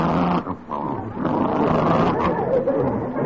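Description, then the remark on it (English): A dog growls in a low, rough, sustained rumble that runs for about three seconds with only a brief dip near the start, fairly loud and steady throughout. “That's just what he sounded like when he bit me.”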